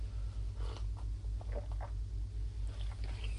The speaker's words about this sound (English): So this is the interlude where I have a sip of coffee.